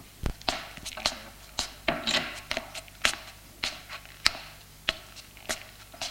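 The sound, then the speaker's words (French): A steady series of sharp, distinct knocks on a door, about a dozen spaced roughly half a second apart, crisp against a quiet background with no voices. “On frappe à la porte.”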